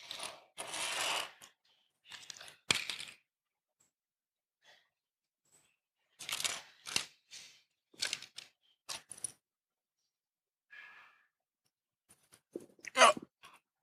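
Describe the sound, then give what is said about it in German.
Crackling bursts of adhesive tape being pulled off a roll in several short rips with pauses between, ending with a sharp tearing snap as a small piece is torn off. “Dann nehmen wir uns unser Klebeband, ein Stückchen.”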